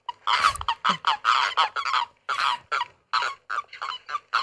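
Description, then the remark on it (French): A common toad (spiny toad) calls in a rapid, uneven series of short, nasal, quacking notes, loud, with brief gaps between bursts and no voices. “C'est le crapaud commun ou crapaud épineux, en tout cas.”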